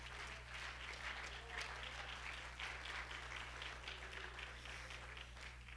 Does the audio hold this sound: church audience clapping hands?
yes